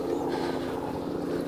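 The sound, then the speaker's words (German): A helicopter drones steadily overhead, its low rotor thrum pulsing in a rapid, even rhythm beneath a broad engine rumble, fairly loud and constant throughout. “Klingt wie ein Hubschrauber.”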